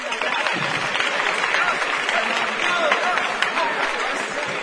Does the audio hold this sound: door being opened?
no